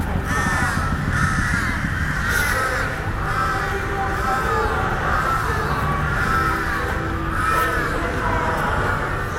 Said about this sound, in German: Nein, der Park, der verändert sich natürlich. Also er verändert sich nur schon mit den Geräuschen der Vögel.